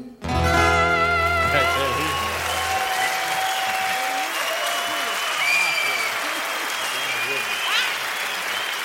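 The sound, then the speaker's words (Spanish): Loud, sustained applause from an audience after a sung performance, a dense steady clatter of clapping that starts just as a held musical chord fades out in the opening seconds, with a few whistles rising above it. “Ese aplauso que se le debe a …, bien fuerte ahí.”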